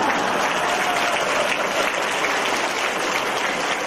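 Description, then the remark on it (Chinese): An audience applauds in a steady, moderately loud stream of overlapping hand claps that holds evenly for about four seconds, with no voices over it. “你们知道为什么现在鼓掌人不多啊？”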